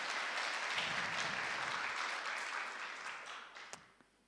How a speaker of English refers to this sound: Let's give them both a clap for being brave.